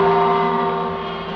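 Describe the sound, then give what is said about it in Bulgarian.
A single sustained gong tone, the Radio Television Skopje time signal marking exactly 7 o'clock, rings out alone, loud and steady with rich, layered overtones, its volume fading slowly over a second and a half. “Гонгот означи точно 7 часот.”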